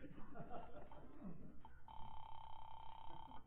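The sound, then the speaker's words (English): A telephone being dialed: faint murmuring and small clicks, then a steady mid-pitched electronic tone holds for about a second and a half before cutting off. “The least I can do is call and find out if he's been trying to get me.”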